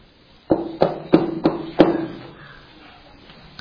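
Five firm knocks on a wooden door in a slightly uneven rhythm, each a sharp hollow thud with a short resonant ring, followed by quiet.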